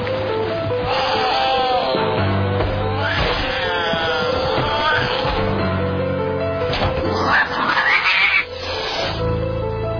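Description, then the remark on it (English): A cat yowls and wails loudly in long, drawn-out cries as its teeth are being brushed, repeating several times over about ten seconds with a steady background hum and some scuffling. “Well, you can wash your hands as they brush the cat's teeth.”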